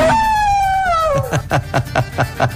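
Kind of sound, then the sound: animal, dog howling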